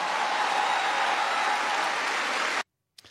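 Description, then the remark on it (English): A crowd at a Kamala Harris event in Madison cheers and applauds in a loud, dense, steady roar of clapping that runs for over two seconds, then cuts off abruptly. No one speaks over it. “Listen to that crowd.”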